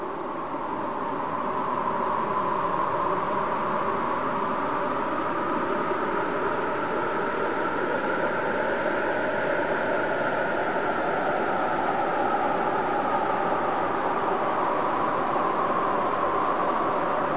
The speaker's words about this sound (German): Dieses Rauschen wandert zwischen den Kanälen und schafft Raum. Raum zum Nachdenken, zur Verarbeitung und zur Entspannung.